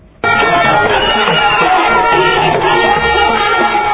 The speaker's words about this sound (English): Nanado was met on arrival by a large crowd of school children chanting, "We want free education."